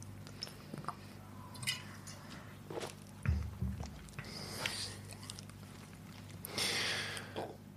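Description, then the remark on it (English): Quiet mouth sounds of someone sipping a drink: soft slurps, wet squishy noises and a swallow, then a breathy exhale near the end, with no talking. “Wait, I have to take another sip.”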